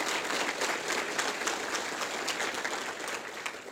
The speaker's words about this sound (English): So thank you so much. Can we get a round of applause to Microsoft and the team here who helped us?